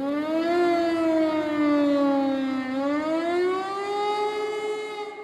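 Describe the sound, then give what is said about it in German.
The Berlin air raid siren, set off by pressing a button, wails loudly and steadily over Berlin, its tone slowly sinking in pitch and then climbing again, rich with harmonics and sounding alone without any voices. “dann mussten wir die Berliner Sirene drücken.”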